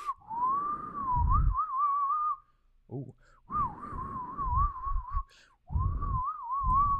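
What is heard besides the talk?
loud whistle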